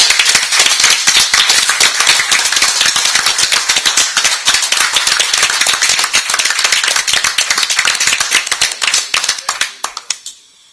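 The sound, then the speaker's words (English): Applause from an audience honouring two Boy Scouts of America veterans with more than a century of experience between them fills about ten seconds with dense, steady clapping, then thins into scattered claps and fades out. “And I want to give a special shout out and some applause to them for all of their work.”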